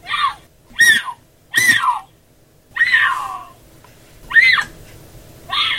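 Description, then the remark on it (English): A female mountain lion, recorded by a trail cam, gives a series of about six shrill, screaming calls, each rising and falling in pitch, spaced a second or so apart, over a faint low background hum. “A female mountain lion's call, in fact, has often been described as sounding like a woman's scream.”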